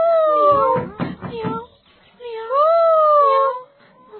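A cat meows twice, loud: a wavering, broken cry followed by a longer, drawn-out meow that rises and falls, with no talking around it.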